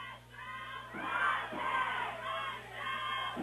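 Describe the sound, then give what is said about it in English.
A loud crowd of BG football fans roars and yells in a continuous wall of voices, swelling in repeated rising waves like a chant, with no single speaker standing out, with 7:50 to go in the fourth quarter of a tied game. “And the BG fans pumped up here, Sky, with 7:50 to go in the fourth quarter, tie ball game.”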